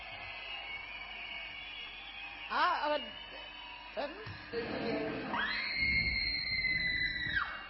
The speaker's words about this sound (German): Genau, wir sehen hier, die Mimik geht schon in Richtung Brüll, aber wir haben noch immer diesen eher hohen Schrei, der vielleicht nicht so angetan ist, dazu das Richtige, die Wut aus dem Bauch rauszulassen.